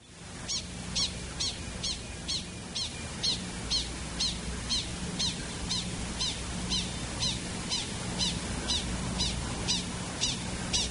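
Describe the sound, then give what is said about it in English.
A coyote call made of rapid, short, high chirps, each about a tenth of a second long, repeating evenly about twice a second throughout, with a faint low hum underneath and no voices. “We're going to play a coyote call first.”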